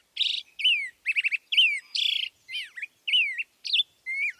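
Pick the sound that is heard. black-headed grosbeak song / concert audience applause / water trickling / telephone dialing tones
black-headed grosbeak song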